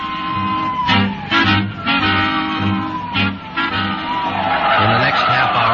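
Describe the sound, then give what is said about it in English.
Five police cars in a dragnet race in with tires squealing and skidding, loud, the engine roar rising and falling across several sharp bursts before a final long screech. “Five cars in the dragnet had pulled in like a noose around a 5-mile area.”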